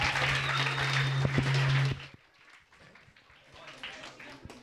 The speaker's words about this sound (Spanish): La idea es que cada vez aplaudáis más fuerte a medida que vaya pasando el rato.